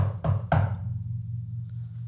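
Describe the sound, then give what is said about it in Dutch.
Two sharp, loud knocks on a door land close together about a third of a second apart, then give way to a low steady hum with no voices. “Klop, klop, klop. Tonk, tonk, voilà.”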